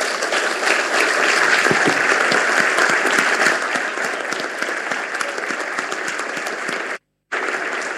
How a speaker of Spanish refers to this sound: Una historia que empezó con el Chino Busti, que fue mi amigo, que fue 3 veces gobernador de Entre Ríos, y que yo quisiera que hoy, que no, ya no está, lo aplaudamos mucho.